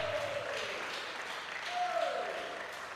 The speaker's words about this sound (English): If you are clapping, clap well. If mercy have scored good, is that the way you will clap?